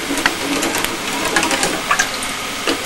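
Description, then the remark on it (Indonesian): A steady bubbling, hissing simmer of melted sugar liquid boiling in a pan while jelly is being cooked, with small pops and crackles scattered throughout and no voices. “Enggak mendidih, gulanya cair, ininya mendidih.”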